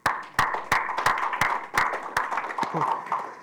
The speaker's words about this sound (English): So with that, I'm going to take a quick pause, and just as you reflect on everything that I've just gone forth, let's just give everybody involved a round of applause.